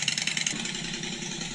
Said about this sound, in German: Warte mal, lass mal laufen. Auf jeden Fall keine Vergaser-Harley, ist eine Einspritzer-Harley. Oh, nee, lass mal. Ist das normal? Doch eine Vergaser.